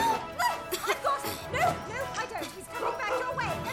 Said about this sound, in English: No, no, no! I've got him. No, no, I don't. He's coming back your way. Stop that dog!